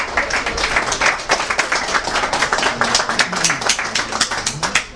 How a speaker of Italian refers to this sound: Grazie per l'applauso e la fiducia in anticipo.